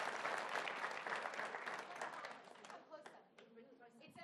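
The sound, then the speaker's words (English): A church audience breaks into loud, dense applause, giving the Lord a hand, that holds steady for a couple of seconds, then thins out as voices rise and shout over the last scattered claps. “Give a Lord a hand, everybody.”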